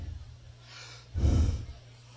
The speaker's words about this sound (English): heavy breathing. We're gonna breathe later on. We have a breathing chorus here.